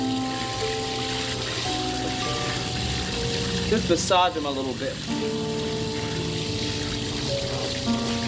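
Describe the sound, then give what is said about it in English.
Water sloshes and splashes steadily in a shallow foot bath of cool water on a hot day as a policeman soaks his tired feet, with a voice speaking briefly over the continuous watery wash and soft music in the background. “Cool water on a hot day.”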